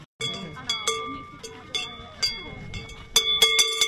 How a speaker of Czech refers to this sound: Zvonec, který jste slyšeli v tradičních masopustních obchůzkách na Veselém kopci, patřil takzvané klibně, tedy kobyle, které je souzeno na konci masopustu zemřít.